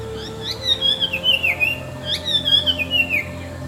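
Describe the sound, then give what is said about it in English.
A male paradise flycatcher calls to his mate twice, each phrase a quick rising note followed by a bright, descending whistled trill, clear over a low steady background hum, by a river with bamboo thickets on its banks in the green delta of southwestern Bangladesh. “The male paradise flycatcher is calling his mate with the sweetest music.”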